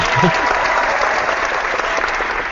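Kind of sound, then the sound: sound effect, applause sound effect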